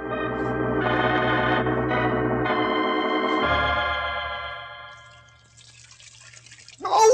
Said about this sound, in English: We find Dr. Watson sitting firmly in the midst of an old-fashioned tin tub, to which Holmes is adding a tea kettle full of very hot water.